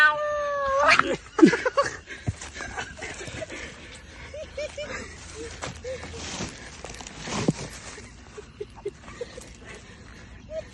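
A cat lets out a loud, rising caterwaul near the start, followed by scattered shorter meows and yowls amid a busy, noisy background.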